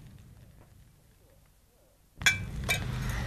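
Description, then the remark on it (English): After a quiet stretch, a sharp glassy clink rings out, followed by a second clink, then a steady splashing rush of wine being poured into a glass for the first course of a meal. “Watson, be so good as to pour the wine for the first course.”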